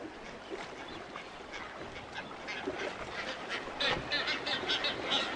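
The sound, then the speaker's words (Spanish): A dense seabird colony, including brown-footed and blue-footed boobies breeding on Isla San Pedro Mártir, a biosphere reserve in the Gulf of California, Mexico, calls continuously: many harsh, overlapping squawks and honks rising and falling, with a few louder cries standing out toward the end. Nobody speaks. “Ubicada en el Golfo de California, esta isla es hogar de cientos de aves marinas que encuentran refugio para reproducirse, incluyendo las colonias más grandes del mundo de pájaros bobos patas cafés y de bobos patas azules.”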